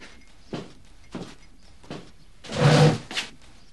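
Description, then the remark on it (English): A chair scrapes across a hard floor with a loud, squeaky drag as a boy stands up by the table, preceded by a few soft knocks and shuffles and followed by a light bump, with no talking. “Hearing the noise of the chair, Oakley turns to see the boy standing up by the table.”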